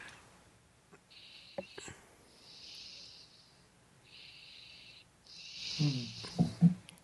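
A person snores in a steady rhythm, each breath carrying a thin, whistling wheeze, with a few louder snorting rattles toward the end. Fairly quiet, with no talking.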